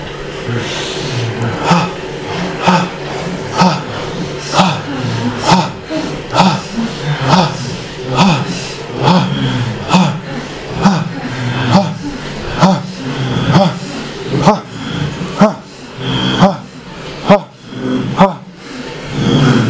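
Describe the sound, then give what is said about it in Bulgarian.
Forceful, rapid bhastrika (chest bellows) breathing, loud: a steady train of sharp, rasping breath bursts roughly every half second, continuing without pause throughout, with no talking over it. “А сега влез в бастрика дишане. Мощно бастрика дишане.”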